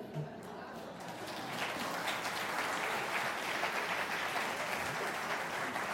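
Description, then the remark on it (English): An audience at an 11 o'clock Unitarian Universalist service applauding together, a steady wash of many hands clapping that swells after the first second and holds loud and dense to the end. “We don't applaud at the 11 o'clock service. Control yourselves.”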